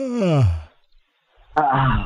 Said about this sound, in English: You let out sound at the end of the yawn. It's very helpful.